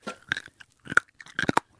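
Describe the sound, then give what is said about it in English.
Crisp crunching as someone bites down on dry, uncooked pasta, three separate bursts of brittle cracking with short pauses between them and no talking. “It was dry pasta, actually, which is not something people would normally eat.”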